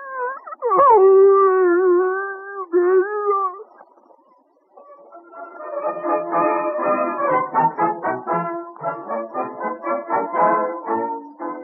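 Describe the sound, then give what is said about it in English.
A dog, Rags, gives a long, loud, wavering howl, pauses, then breaks into a run of choppy, syllable-like yowls that rise and fall as though mimicking speech, as he is coaxed to say 'How are you, Grandmama?' in a boyhood experiment by Alexander Graham Bell to teach his dog to talk. “His first scientific experiment, teaching his dog to talk.”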